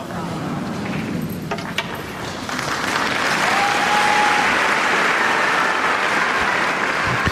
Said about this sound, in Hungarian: Kedves Mária Rádió hallgatók, ahogy szokás, nagy vihar tapsal köszönjük meg a Szent Atyának a mai katekézisét.